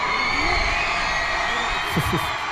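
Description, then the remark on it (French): About 370 pupils of a French high school in Doha, Qatar, cheer and shout in a steady, dense roar at the Al Sadd club stadium, welcoming a football team to its first training session, with a couple of higher whoops rising out of the din near the end. “Oui, le stade du club d'Al Sadd, pelouse impeccable, et il y avait tout à l'heure donc ce comité d'accueil enthousiaste, beaucoup de ferveur.”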